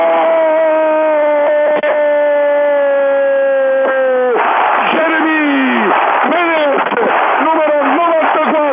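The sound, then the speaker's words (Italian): A commentator holds a long, steady, high shout for about four seconds as Menezzi scores a goal with the inside of his right foot into the corner, then a loud, dense stadium crowd roar takes over with the whole stadium on its feet, excited voices rising and falling on top of it. “Di interno destro ha messo la palla nell'angolino battendo Andanovic, tutto lo stadio in piedi.”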